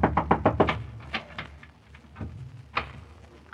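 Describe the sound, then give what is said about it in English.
A quick burst of about six firm knocks on a door, followed by a few slower, scattered raps, loud with no voices; someone knocking to be let in. “Jim, let me in. Jim!”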